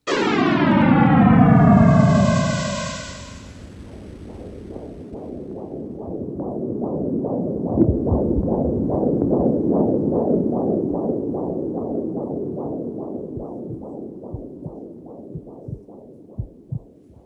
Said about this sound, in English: cosmologists now think they know what the Big Bang sounded like. I have to warn you, it's more like a big hiss. But hey, it's not every day you get to hear the sound of a million years compressed into 10 seconds. Here goes.